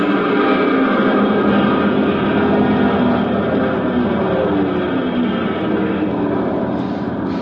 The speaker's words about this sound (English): At 300 feet, I threw open the throttle. The plane clawed for altitude, but the wind was hitting it like a pneumatic drill trying to crack it wide open.